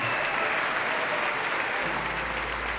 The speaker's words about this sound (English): President Obama walks through the sea of applauding congressmen and cabinet members.